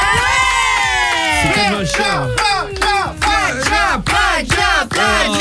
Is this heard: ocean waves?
no